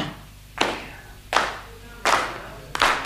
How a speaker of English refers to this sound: So if during this next thing, nice and easy, nice and funky, you could clap your hands like this.